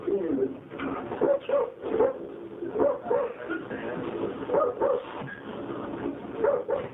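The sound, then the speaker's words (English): Retired racing greyhounds bark and whimper in a steady stream of short, overlapping bursts, moderately loud, with yelps and whines running through the whole stretch and no talking over them. “The dogs were victims of a bungled scheme to ship retired racers to tracks in Venezuela.”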